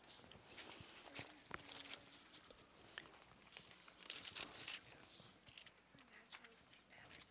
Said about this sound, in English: And if you'll just give me a moment here, I need to grab a sheet of paper.